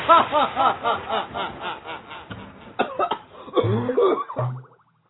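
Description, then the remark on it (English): A run of harsh, raspy coughs in quick succession, loud, broken up by a few throaty hacks and wheezy, snickering breaths before trailing off into silence. “Yeah, gotta work on that cough there.”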